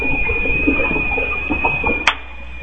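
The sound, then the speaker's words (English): A kettle boiling water for tea, with a steady high-pitched whistling tone held over a low, churning rumble, broken by a single sharp click near the end. “Is somebody making tea or something?”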